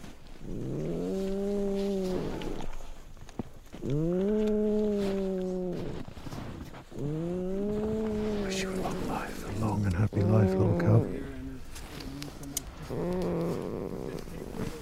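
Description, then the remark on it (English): A female polar bear cub snores with loud, droning, purr-like breaths repeating every couple of seconds, then giving way to rougher, mixed rumbling sounds. “And then she starts to snore.”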